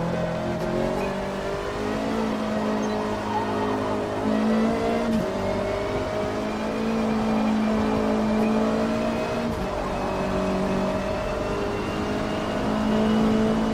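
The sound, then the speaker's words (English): Another racer's car engine during a race drones loudly and continuously, its pitch climbing and dipping as it revs through gears, with no voices over the steady mechanical roar. “I think I can hear his car.”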